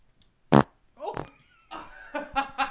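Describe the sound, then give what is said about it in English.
A single loud, short fart right up against the microphone, sharp and close, followed by people exclaiming and laughing. “Can I have the fart mic again?”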